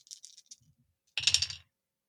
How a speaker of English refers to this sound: So I am rolling 2d6 and a d8. And I'm trying to beat a 9?